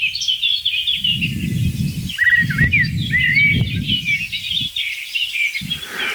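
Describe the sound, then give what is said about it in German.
A song thrush sings clear, varied phrases amid a busy chorus of other birds, led by a blackbird, chirping continuously, with a low wind rumble underneath and no voices. “Zweite Hauptrolle ist die Singdrossel und dann verschiedene Akteure in den Nebenrollen.”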